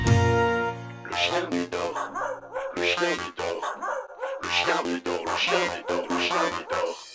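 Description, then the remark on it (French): A small dog called Médor yaps and whimpers in quick, repeated bursts, fairly loud, over a steady musical backing. “Dis-moi comment s'appelle ce petit chien si vilain?”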